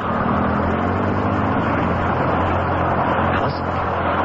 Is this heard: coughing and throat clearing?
no